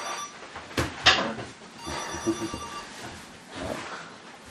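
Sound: mobile phone ringing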